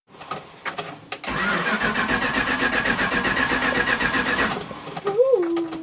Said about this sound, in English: It was rotten beyond, but it had a really good engine. But it remains an engine that's difficult to start.